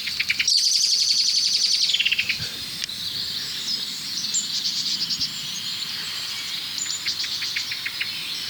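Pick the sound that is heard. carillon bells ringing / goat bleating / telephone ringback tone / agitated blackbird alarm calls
agitated blackbird alarm calls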